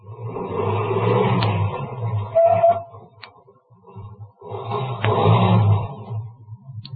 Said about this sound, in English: Ahead, the car that passed me slowed down, and it also stopped. Then turned around and came back toward me.